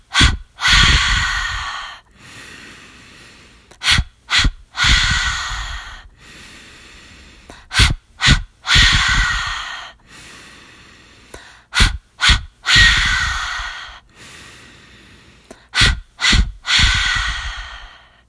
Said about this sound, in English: And again. Ready? Please join me in five rounds. Here we go. Inhale. Exhale.